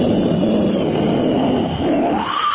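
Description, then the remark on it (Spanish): A voice imitates an airplane engine starting up: a steady, rough, breathy roar held for a couple of seconds, with a whining tone that rises in pitch toward the end. “¿Cómo hace un avión?”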